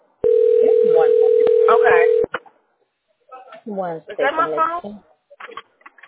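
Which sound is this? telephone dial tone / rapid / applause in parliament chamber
telephone dial tone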